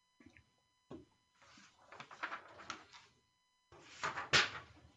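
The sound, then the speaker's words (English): Mechanical clacking and rattling, like a typewriter being typed on, in two busy bursts after a couple of isolated clicks, moderately loud with no talking. “It's reading a newspaper by a typewriter.”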